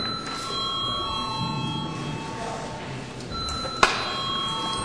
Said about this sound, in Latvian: Debates turpināsim pēc pārtraukuma. Tā kā ir pienācis laiks pārtraukumam, lūdzu zvanu.